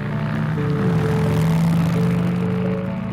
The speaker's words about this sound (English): A motorcycle ride in the country, a chance to get away from it all.